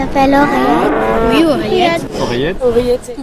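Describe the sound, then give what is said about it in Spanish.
A 5-year-old Normandy cow at the International Agricultural Show 2024 moos loudly, one long drawn-out bellow with a rising and falling pitch, followed by a shorter second moo, heard alone without talking. “Es Oreillette, la vaca de raza normanda de 5 años, imagen y embajadora de este Salón de la Agricultura 2024”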